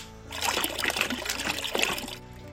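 Water pours steadily for about two seconds, a splashing trickle with a bright, hissy texture that starts and stops abruptly; no one speaks. The water, melted from snow, is being poured out for sheep and pigs to drink.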